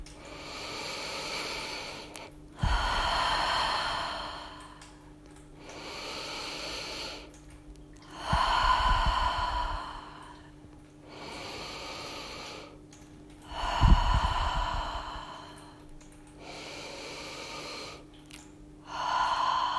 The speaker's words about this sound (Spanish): la volvemos a normalizar con un ciclo de 8 respiraciones profundas por la nariz y por la boca. Empezamos.